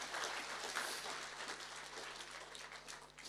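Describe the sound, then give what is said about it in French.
A crowd applauds steadily, dense overlapping claps forming a bright, continuous wash of noise that holds at an even level for a few seconds without a break. “Come on, une bonne main d'applaudissement pour la réalité.”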